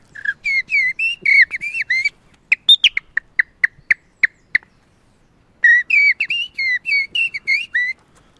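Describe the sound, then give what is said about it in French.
A person whistles an imitation of a common blackbird's song: warbling fluting phrases, then a run of sharp evenly spaced chirps, then more warbling phrases, clear with no talking. “Et là, je lui fais le merle noir, qui est l'oiseau préféré de mon père, et certainement l'oiseau le plus virtuose qui existe en Europe, parce que c'est un oiseau très mélancolique, noir, sublime, qui se met...”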